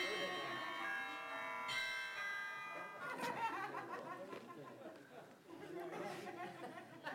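A mobile phone rings with steady, sustained chiming tones for about three seconds, then a crowd of people chatters and laughs over it.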